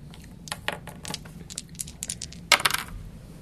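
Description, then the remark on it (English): Dice clatter and tumble across a hard tabletop in a quick series of sharp clicks and rattles, ending with a louder burst of impacts before settling, rolled by a game player and coming up a 20; no speech. “Can I have your dice?”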